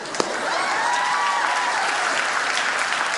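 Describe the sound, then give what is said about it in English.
A large audience applauds steadily for the sophomore class students seated in the balcony, dense clapping at an even, sustained level with no one speaking over it. “I just want everybody to give them a hand.”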